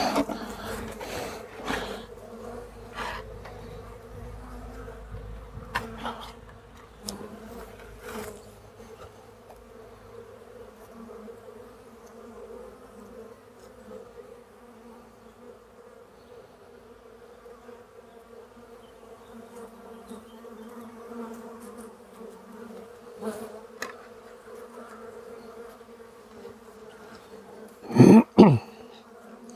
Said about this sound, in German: Kann man auch vorsichtig einmal die Kiste kurz auf den Boden aufstampfen. Die Bienen fallen zu Boden und dann kann man sie einfach rüberkippen.